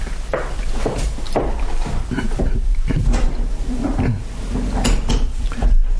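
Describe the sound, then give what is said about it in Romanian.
Wooden clatter: a few steps, a door being handled, then a bolt being slid shut on the door, scraping and knocking, with several sharp knocks spread over a low steady background rumble. “Pune zăvorul.”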